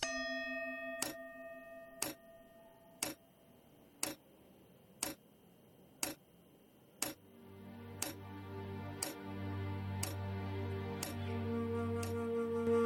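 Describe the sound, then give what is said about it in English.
A clock ticks steadily, one sharp, clear tick each second. A fading ringing tone sits under the first few ticks, and soft low musical tones join partway through. “The tick-tock of the clock shows clearly the passage of my life.”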